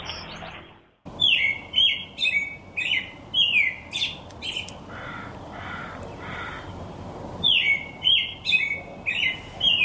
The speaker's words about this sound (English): It's robins chirping, and there is a caw of a crow in the background. This is sent to us by listener Noel. says the sound robins make this a call at dawn and dusk, and they're unique to those times of day.